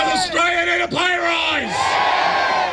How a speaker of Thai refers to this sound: ออสเตรเลียต้องการค่าจ้างแรงงานที่เพิ่มขึ้นหรือไม่ต้องการนั่นคือเสียงที่ลูกจ้างตะโกนขณะเดินขบวนไปตามท้องถนนในหลายๆเมืองในออสเตรเลียเมื่อวันอังคารที่ผ่านมา